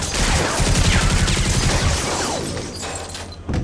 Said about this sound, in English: We heard more gunfire, this time tearing through the deck.